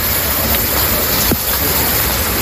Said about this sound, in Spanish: La lluvia, sin duda alguna, es la, ya lo has escuchado hace un instante, la gran protagonista de hoy en Madrid.